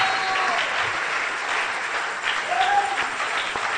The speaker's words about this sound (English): Are you clapping?